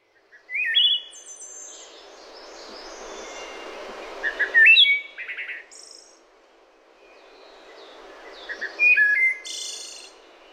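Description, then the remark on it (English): A wood thrush sings three separate flute-like phrases, each ending in a trilled flourish, spaced several seconds apart over a steady background hum of insects. No one speaks. “We sit on our screened-in porch, which is her idea, too, to listen to this wood thrush.”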